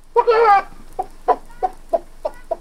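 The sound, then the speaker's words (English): A man imitates a chicken: a drawn-out squawking cluck, then five short, evenly spaced clucks in a steady rhythm, fairly loud with nothing else behind them. “The dumb stableman role was the robber with the fox-like grin's father, who had an excellent chicken imitation, because it turned out that he was the one laying the golden egg.”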